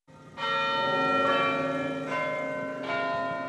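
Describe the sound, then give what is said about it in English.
Church bells in Harvard Square, Boston, chime in a slow sequence of rich, ringing strikes, each tone sustaining and overlapping the next, fairly loud and resonant with no voices present. “In Harvard Square, church bells chime as millennials sip lattes and drift out of bookstores.”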